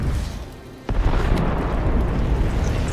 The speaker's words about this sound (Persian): این دیگه چیه؟ اون آتش فشان بود. یه آتش فشان؟